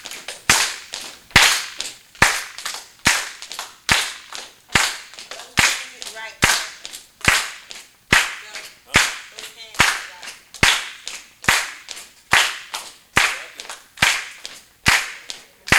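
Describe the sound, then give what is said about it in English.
Sharp, loud hand claps repeat in a steady, even rhythm, nearly one per second, for the whole stretch, with foot stomps used as an offbeat to the hand claps in a Black heritage style of clapping in time, and a few faint voices rising briefly between the beats. “We clap in time and with rhythm, using our foot as an offbeat to our hand clap.”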